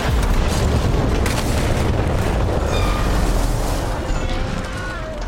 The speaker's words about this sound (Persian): بلاین میره سمتشون که زیر پاش انفجار میشه.